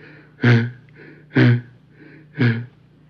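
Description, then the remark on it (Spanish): A donkey named Canuto stops and pants heavily, out of breath, with three loud, rough gasps about a second apart and softer wheezy breaths between them, with no talking. “El burro Canuto se detuvo jadeando.”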